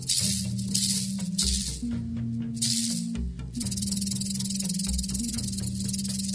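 A snake's tail rattles in a continuous dry, maraca-like buzz, steady and fairly loud for several seconds, with a low humming drone underneath and no voices.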